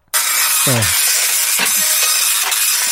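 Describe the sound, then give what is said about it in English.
A slow printer printing a page: steady loud hissing, whirring noise with a brief low rising-falling motor whine early on and a few soft mechanical clunks as the paper feeds. “Pretty slow printer, Rob, I'm sorry.”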